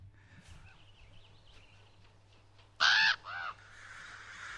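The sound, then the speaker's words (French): Two loud, harsh crow caws ring out in quick succession, the second slightly shorter, breaking a quiet outdoor background of faint bird chatter. “C'est Les corbeaux. Ouais, les corbeaux, qu'est-ce qui m'est arrivé?”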